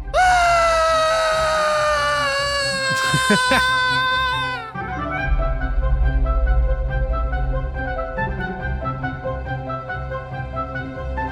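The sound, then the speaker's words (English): A man screaming in his sleep lets out a loud, drawn-out scream that slowly falls in pitch for about four seconds, then breaks off as steady music takes over. “I would not be surprised if somebody found us with a man screaming in his sleep.”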